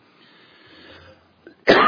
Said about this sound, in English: I'm going to cough again.